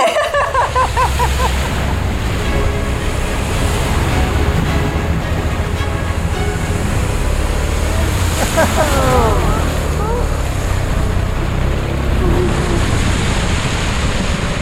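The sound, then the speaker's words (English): A small motorcycle plows through deep floodwater like a speedboat, its engine droning under a loud, steady rush of churning and splashing water that stays continuous throughout. “But we are plowing through this water like a speedboat.”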